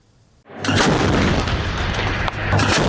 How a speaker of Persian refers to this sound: توپخانه ارتش اسرائیل که مواضعی در جنوب لبنان را هدف قرار می‌دهد، در واکنش به پرتاب یک راکت از جنوب لبنان به شمال اسرائیل در بامداد دوشنبه، حادثه‌ای که هیچ گروهی مسئولیت آن را بر عهده نگرفته.